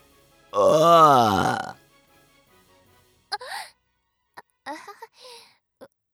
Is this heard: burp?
yes